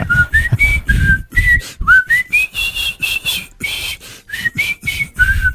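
A person whistles a bouncy pop tune up close, short repeated phrases rising and falling in a steady rhythm, with no talking over it.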